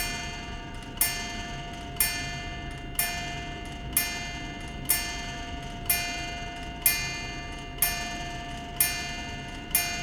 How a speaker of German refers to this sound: Mehr als 2 Stunden vergingen und lediglich eine Uhr an der Wand tickte leise.